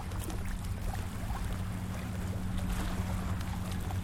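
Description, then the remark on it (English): Lake water laps steadily against the shore of the lakefront just before Diversey Harbor in a continuous wash, with a low droning rumble underneath and no voices, on a day of about 60 to 65 degrees. “I'm walking around the lakefront just before Diversey Harbor. Right next, can you hear the water?”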